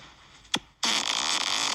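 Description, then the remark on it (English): A short squeaky blip, then a loud, sustained raspy fart that keeps sputtering to the end, played back alone with no talking. “all you're allowed to do is fart”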